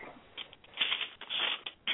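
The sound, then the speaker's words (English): Paper shuffles and rustles in a steady, irregular run of soft crinkling swishes, fairly faint, as someone does paperwork in the background, with no voices. “Yeah, I'm hearing somebody doing paperwork or something. Shuffling.”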